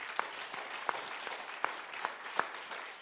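Steady applause from an audience, a dense patter of many hands clapping together at moderate volume, with a few sharper individual claps standing out, and no one speaking.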